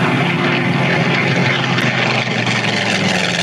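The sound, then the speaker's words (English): Jet planes roar overhead in a loud, continuous wash of engine noise that holds steady throughout, with no voices. “Those don't look like no Navy planes. They sure don't. Oh, hell. Those are damn jet planes.”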